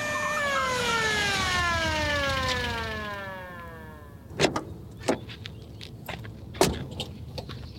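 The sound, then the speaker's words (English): A police siren wails loudly and then winds down, its pitch sliding lower over a few seconds, followed by several sharp clunks and knocks in the quiet that follows. “Yep, there he is now, taking an unexpected ride in the back of a police car.”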